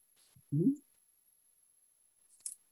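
Paper pages shuffle and bump together: a short muffled thud, then a quiet crisp rustle about two seconds later, with near silence between and no voices.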